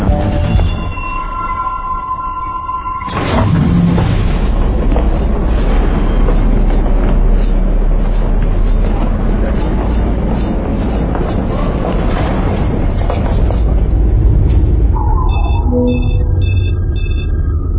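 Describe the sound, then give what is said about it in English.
A metro train rumbles along loud in a continuous roar, with high metallic squealing and whining tones at the start and again near the end. “The train makes two stops at 20th and 33rd.”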